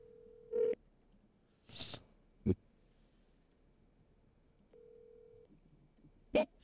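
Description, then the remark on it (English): A phone call from a man to his wife rings out over a speakerphone: two short, steady ringback tones several seconds apart, broken up by a few sharp clicks and a burst of rustling, with no one talking. “All right, I am now calling my wife to see if she can get this question right. My speakerphone's not as good as yours.”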